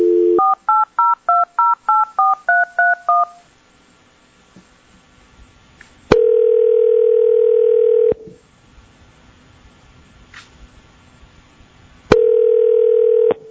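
A quick run of about nine touch-tone dialing beeps as a phone call is placed during a board meeting, then a steady telephone tone that sounds twice for about two seconds each, with quiet line hiss between. No one speaks.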